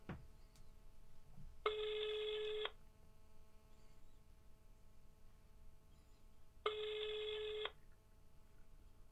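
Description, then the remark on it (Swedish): An outgoing phone call rings twice while waiting to see if the person called answers, each tone about a second long with a gap of several seconds between, steady and fairly loud over a low background hum, with no talking. “Nu ringer det.”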